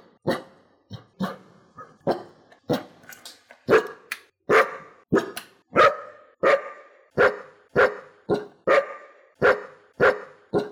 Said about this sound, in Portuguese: Não é todo mundo que pode latir pros ouvintes e a galera considerar isso fofo.